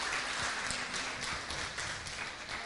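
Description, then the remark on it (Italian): An audience applauds the Lord during a church service, a dense, steady wash of many hands clapping at an even, fairly loud level with no voices over it. “Possiamo fare un applauso al Signore, perché la verità è la sua parola.”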